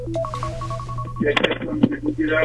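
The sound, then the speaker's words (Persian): A quick run of electronic telephone tones steps up and down in pitch over a steady hum as a phone call to a caller from Afghanistan is connected, then gives way to crackly, compressed line noise with faint voices. “خب یه تلفن دیگه میگیرم، از زورتون مرخص میشم.”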